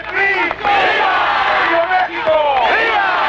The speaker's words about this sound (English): the crowd of 3,000 in Tijuana was hailing Luis Donaldo Colosio as Mexico's next president